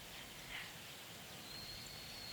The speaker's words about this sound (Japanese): すごいでしょ、ここ。音がたくさん。生きている音。自然の音。